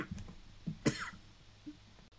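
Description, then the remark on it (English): One sharp, harsh cough bursts out, framed by a few softer throaty rasps and breaths, with no talking. “I just went into a little coughing fit, and you didn't need to hear that.”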